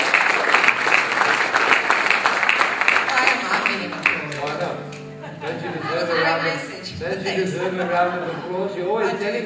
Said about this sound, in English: But give my wife a big round of applause as she comes up to the finale.